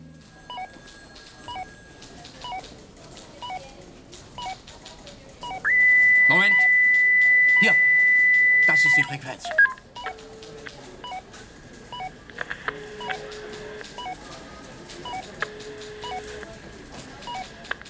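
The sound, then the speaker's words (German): Electronic beeping from a police officer's frequency scanner for eavesdropping on car phones as he searches the frequencies: a loud, steady tone held for a few seconds, then a string of shorter, quieter bleeps at shifting pitches, with faint radio-like chatter underneath. “Wenig später begann es zu piepsen und der Polizist suchte die Frequenzen ab.”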